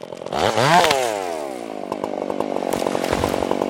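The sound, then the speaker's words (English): A chainsaw engine revs up sharply, then settles into a steady, loud, buzzing drone as it cuts through a tree, with no voices. “But to get the job done and to keep the public safe when campgrounds reopen in the spring, an army of chainsaw operators is needed.”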